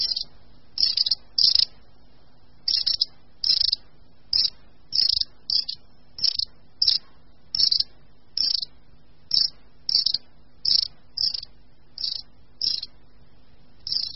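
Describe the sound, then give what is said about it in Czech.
A long-tailed tit flock gives short, thin, high-pitched contact calls in the leafless season, repeated in quick, uneven bursts of one or two notes over a quiet background, clear. “Ve stichlé přírodě je v tomto období nejčastěji prozradí právě jejich kontaktní hlasové projevy.”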